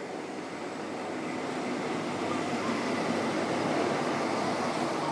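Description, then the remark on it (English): The 17:32 train, running about 15 to 20 minutes late, rumbles steadily through a station on a warm, sunny evening under blue skies, a broad continuous roar of wheels and engine noise holding at a fairly loud, even level throughout, with no voices. “That's the 1732, that's about 15 minutes late or more.”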